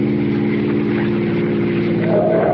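A car engine hums steadily at a low pitch, then its tone climbs near the end as it accelerates, loud and continuous with no talking.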